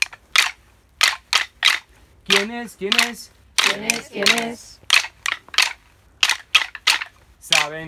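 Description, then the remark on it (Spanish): Sharp, dry knocks of a woodpecker drumming on tree trunks tap out in loose bursts of two and three, loud and crisp, while a voice briefly speaks between them. “Muy derechito y fuerte me pico, voy tamborreando sobre los troncos.”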